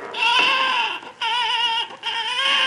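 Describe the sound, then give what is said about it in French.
A baby cries in three loud, sustained wails, each broken by a brief catch of breath, with no other sounds around it. “Mon bébé, dis-moi, pourquoi pleurer comme ça?”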